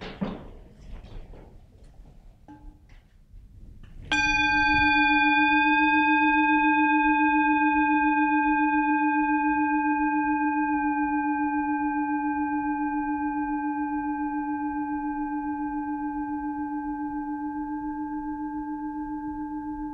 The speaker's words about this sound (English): And so if we could all maybe just close our eyes and hold the hand of the person next to you and listen to this bell and become present for a moment.